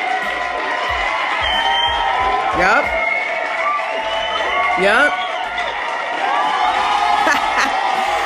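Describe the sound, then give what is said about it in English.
A crowd cheers and applauds steadily throughout, with rising whoops and shouts breaking through the dense roar; a single voice speaks briefly over the noise. “Hold your applause.”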